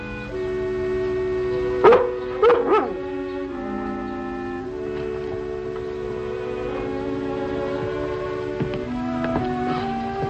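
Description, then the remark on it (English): The dog Lassie gives three or four quick, fairly loud barks close together near the start, then falls quiet while sustained orchestral music plays on underneath and continues to the end. “I thought I heard Lassie barking.”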